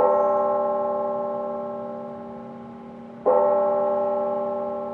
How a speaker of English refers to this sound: Today in Chattanooga, Tennessee, a somber moment. Late this afternoon, several churches and chapels rang their bells.